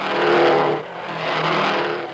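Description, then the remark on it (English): Loud roaring race car engines tear past at the Indianapolis Speedway during a 500-mile race, one surging and fading quickly before a second roar swells in right behind it, with no voices. “And so did the Indianapolis Speedway.”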